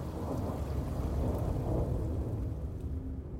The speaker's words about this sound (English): A little after 4 p.m., they're in the Bavarian Alps, winding up to the Berghof. The skies darken. It starts to rain.